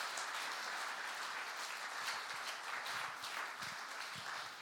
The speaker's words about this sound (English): Let's give another clap. That's fantastic.